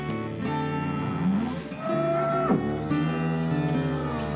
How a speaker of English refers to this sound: Cows are large farm animals. They eat a lot of corn, grass from the pasture, and hay.